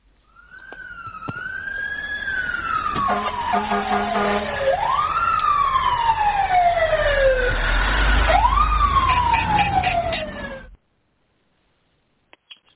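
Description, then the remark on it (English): A fire truck siren wails loudly for about ten seconds, its pitch sweeping up and slowly falling in repeated cycles with a low rumble beneath, then cutting off abruptly to silence. “We had our intro and our siren warning us to get started here”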